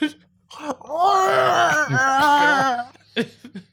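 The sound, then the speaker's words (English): A loud, muffled scream: a strained, wailing cry that wavers up and down in pitch for about two and a half seconds, followed by a few short breathy sounds. “If you woke up in the middle of the night and heard muffled screaming, I don't know how much investigating like I would do.”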